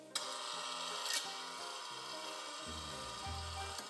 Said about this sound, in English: We gotta work on that creak, it's very loud.